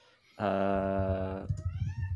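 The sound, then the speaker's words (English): A female cat, excited about her new crinkle ball toy, lets out a loud, drawn-out meow lasting about a second, steady, followed by a quieter, wavering vocal sound as it trails off. “Listen to the cat. She's bananas, right?”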